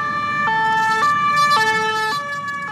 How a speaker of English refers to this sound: Sirens filled the second district of Paris after a knife attack on Saturday left two dead, including the assailant.